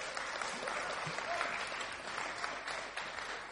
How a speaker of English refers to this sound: a nice round of applause again, please.